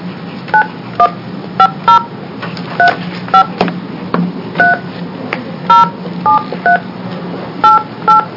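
A string of short touch-tone beeps as a phone number is keyed in during a meeting to call a speaker, about a dozen quick tones in an uneven rhythm over a low steady background hum, with no one speaking.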